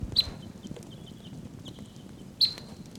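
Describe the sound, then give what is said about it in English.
Soft, high whistled calls of wild birds sound a few times, two clearer notes roughly two seconds apart with fainter ones between, over a steady low rumble and light patter of rain on an overcast day. “Wild birds continue to call softly.”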